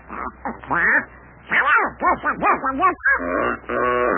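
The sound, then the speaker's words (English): A goose honks loudly in a rapid run of nasal, squawking calls, broken into three bursts with brief pauses between them, and no background noise. “Here comes that goose again.”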